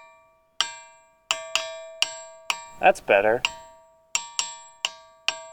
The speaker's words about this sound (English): I was expecting a stronger sound out of something called the Ringing Rocks. Oh, me too. Eventually, I did get some better sounds. I think it's just about finding the right rock.